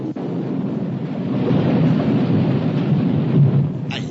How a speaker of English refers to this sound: Voilà, nous sommes dans l'avion avec Stouff, actuellement, et Paco. Ouais. Et regarde, nous faisons piquer l'avion du nez.